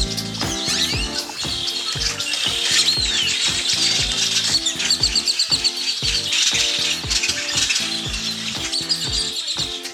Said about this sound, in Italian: Quello che avete sentito è uno stormo di uccelli che vola.